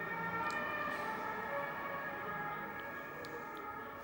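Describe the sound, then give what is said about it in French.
An emergency vehicle siren wails steadily, its tone holding loud and sustained for several seconds over faint street background, with no one speaking. “C'est la police ou les pompiers, ça?”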